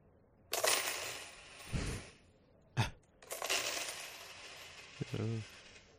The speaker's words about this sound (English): he just knocks over the coins. I don't know what he's hoping to get out of that. Like he forgot how physics work or something.